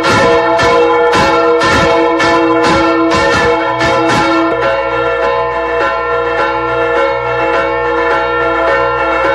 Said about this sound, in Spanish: Vamos a comenzar tocando a misa solemne, porque las campanas servían y sirven en lo esencial para tocar a misa, pero cuando esta es solemne, han de sonar así.